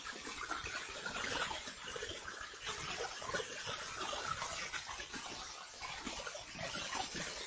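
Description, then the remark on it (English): Steady, continuous hiss of a shower running, a dense spray of falling water with no breaks, moderately quiet and heard on its own without any voices. “Somebody's taking a shower again.”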